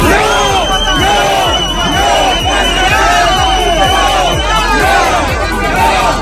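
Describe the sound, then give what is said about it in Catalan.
Shouting at a Saturday midday street clash in central Olot between far-right demonstrators and antifascist groups: many voices shout and chant in loud, rhythmic bursts, rising and falling together in a steady, dense cadence throughout. “Aquests eren els crits que se sentien aquest dissabte al migdia al centre d'Olot.”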